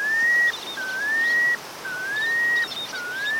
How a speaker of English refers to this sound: Count yourself lucky if you see or hear the melodious piping plover. They have a very distinctive and melodic call. In fact, their scientific name is Charadrius mellitus.